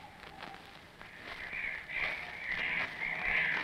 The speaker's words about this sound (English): Listen to those gulls again. Probably so thick outside, they don't know where they're going.